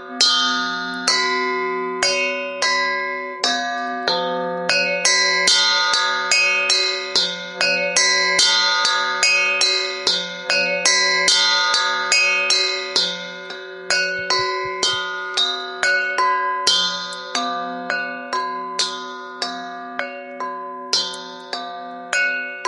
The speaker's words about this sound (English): It swung so softly in the outset that it scarcely made a sound. But soon it rang out loudly. And so did every bell in the house.